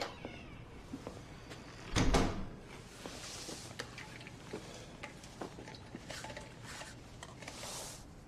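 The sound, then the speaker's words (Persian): A door is opened with a single brief clunk of the latch, followed by scattered light clicks and soft rustling in otherwise quiet surroundings. “بیا اینور در رو باز کنم.”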